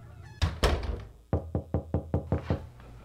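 Knocking on a garage door: two heavy, booming bangs, then a quick, even run of about seven sharp knocks, loud, with no voices.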